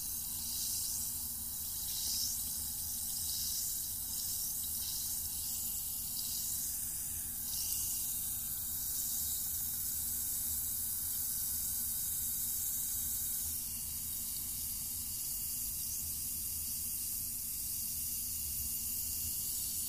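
fizzing

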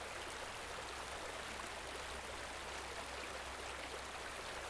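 flowing river water

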